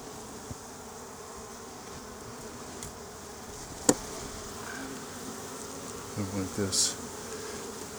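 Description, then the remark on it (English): A steady, dense buzz of many honeybees around a hive frame loaded with bees, with a sharp knock near the middle and a few brief louder rustles and thuds toward the end as the frame is handled and slid into a hive box. “I have a frame loaded with bees trying to slide it in there, and I ended up squishing them all.”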